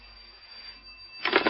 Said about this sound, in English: I should think it was about 5 to 8 when the phone rang in my desk.